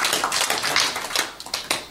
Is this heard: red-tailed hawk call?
no